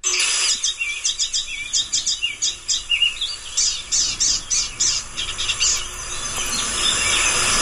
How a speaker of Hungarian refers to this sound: Ez többet magával énekelt. Ez a cíp-cíp-cíp, ez a ilyen furcsa csipogás valami, ez nagyon jellegzetes az énekében.